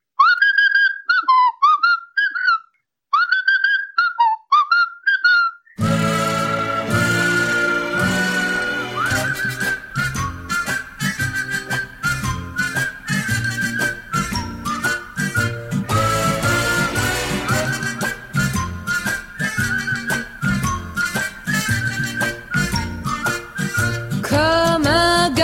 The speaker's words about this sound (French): Qui est-ce qui siffle dans la chanson? Alors c'est Carlos qui se trouvait là. Et moi, parce que je connaissais la mélodie, et à un moment, je dis, ça serait bien qu'on réponde en sifflant.